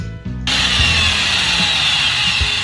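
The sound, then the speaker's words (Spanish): Loud construction noise from pipes being installed in a city: after a brief low rumble, a harsh, steady power-tool whine kicks in abruptly and drones on without pause, bright and grinding, with no voices. “No te asustes, están poniendo las tuberías.”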